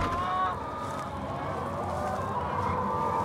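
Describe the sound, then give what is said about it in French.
A flock of 12,000 hens on a farm cackles and clucks continuously, a dense, overlapping chorus of many birds, steady and fairly loud throughout with no talking. “on entend les crissements de pneus des voitures sur le circuit automobile de l'Urcy et le caquettement de ces 12 000 poules qui, aussi incroyable que cela puisse paraître, se sont comme mises au diapason”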